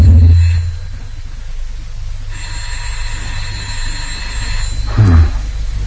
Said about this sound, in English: Yes. Shh. Keep quiet. Phone's ringing.